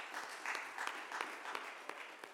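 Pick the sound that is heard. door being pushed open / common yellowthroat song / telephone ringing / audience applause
audience applause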